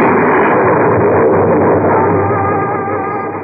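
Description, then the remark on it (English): A loud, ear-shattering crack of thunder bursts in at once and rolls on as a dense, steady rumble, slowly easing off over a few seconds with no voices. “Suddenly, there was an ear-shattering thunderclap.”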